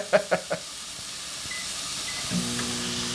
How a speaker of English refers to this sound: You're just very calmly cooking this pork belly in the pan. There's no oil in the pan. There's no salt. There's no seasoning. Awful lot of fat on that pork belly.